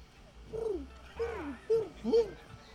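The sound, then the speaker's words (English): Several voices imitate pigeon cooing, producing four throaty, warbling coos in a rough sequence, each swooping down in pitch, moderately loud. “All right, how about a pigeon?”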